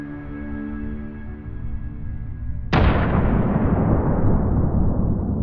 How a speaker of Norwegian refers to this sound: Og så kommer det en kjempekraftig eksplosjon, husker jeg.